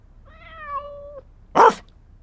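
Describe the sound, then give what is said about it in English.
A drawn-out, steady tonal meow gives way to a single short, loud dog woof, a sharp burst standing alone with nothing after it and no talking. “One woof. So it's A, Independence Day.”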